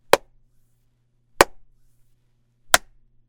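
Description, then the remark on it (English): Three sharp hand claps recorded in a home studio with a Rode NT1 microphone through an SSL2 at a gain of 6.7, about one hand length from the mic, evenly spaced about a second and a half apart, each a crisp bright snap with a short tail, over a faint low hum and otherwise silence. “Next will be some clapping.”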